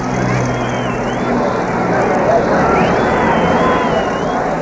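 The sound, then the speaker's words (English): A steady, dense roar of a large celebrating crowd in Central London, countless voices blending into one continuous babble, with a thin high whistle wavering faintly above it. “And as for the noise of it, well, listen for yourselves to Central London”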